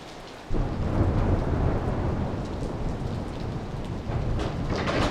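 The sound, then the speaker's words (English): Heavy rain pours down in a dense, steady roar that swells in after a brief quieter moment, with deep rumbles of thunder rolling underneath throughout. No voices are present. “Yeah, it's raining like crazy outside.”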